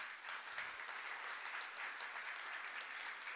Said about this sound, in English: Can we also just have one last clap for all of our 10 speakers here today?